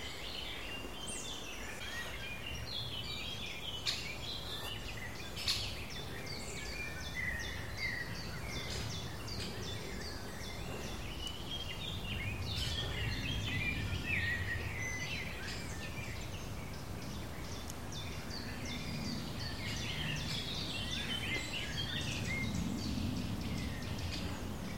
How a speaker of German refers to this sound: Es wird eigentlich ganz ähnlich. Die Kulisse wird von außen herum untermalt von Amselgesängen, ziemlich weit oben und Zilpzeit.